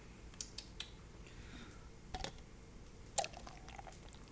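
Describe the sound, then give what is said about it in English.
A strawberry and banana fruit drink being poured quietly, a soft trickle of liquid with a few small clicks and drips scattered through it, faint, with no one talking. “I have a strawberry and banana, like, fruit drink, so we're gonna shake it up.”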